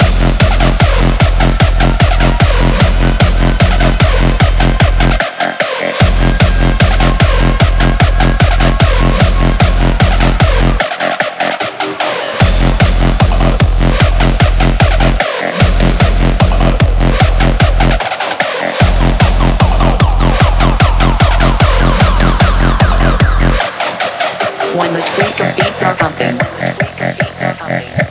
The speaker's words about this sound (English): Hey, tweakers, bring back that reverse bass.